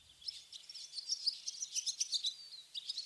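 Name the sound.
swallows chirping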